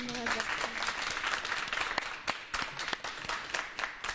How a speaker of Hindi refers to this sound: एक इनकी हौसला अफजाई कीजिएगा तालियों के जरिए।